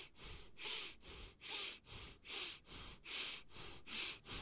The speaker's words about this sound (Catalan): Llavors, seria connectar la inhalació i l'exhalació d'aquesta manera.